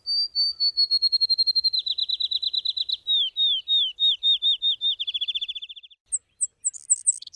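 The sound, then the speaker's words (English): A male sparrow sings from the top of a shrub or tall weed, tail pointed down and head thrown back: a bright, rapid trill, a long run of quick repeated high notes that shifts pitch partway through, then ends with a few separate sharp chirps. No voices. “There, tail pointed at the ground, head thrown back, it trills with gusto.”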